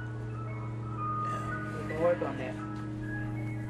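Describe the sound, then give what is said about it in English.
An ice cream truck's jingle plays steadily at moderate volume over a low hum, while a brief muffled voice rises in the middle. “Was it serendipity that that ice cream truck came along just at that time?”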